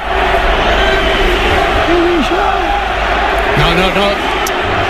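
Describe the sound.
A large football crowd roars continuously, with loud massed shouting and rising-and-falling chants against Real Madrid club president Florentino Pérez over a steady, dense wall of noise.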